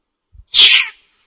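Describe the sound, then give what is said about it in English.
A single short, high-pitched cat meow, fairly loud, lasting about half a second, preceded by a couple of faint low thumps, with no talking around it. “Oh, what a lovely cat.”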